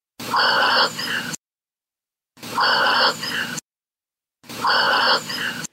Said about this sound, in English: This is her dog breathing, and you can hear a very breathy, "I love you."